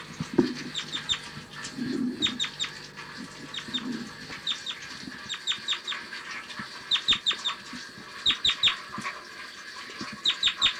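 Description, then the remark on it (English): Repeated short, sharp bird flight calls in quick bursts, with clicky notes and a few low clucking sounds early on, over steady background noise. “Typical flight call.”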